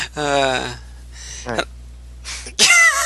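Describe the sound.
Loud breaths rush into the microphone in a few heavy bursts, mixed with short voiced vocal sounds and a sharp gasp-like intake near the end.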